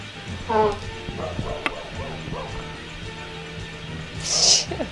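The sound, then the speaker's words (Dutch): Dogs bark a few times outdoors as new dogs are being introduced, with a sharp yip early on and scattered softer barks after, over a steady background hum and faint voices. “Ja, buiten worden nu nieuwe honden geëxploreerd. Er wordt introductie gedaan.”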